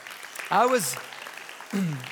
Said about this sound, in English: By the way, I got to give a quick shout out to our Faith Builders class. Where's our Faith Builders class? Let's clap for them.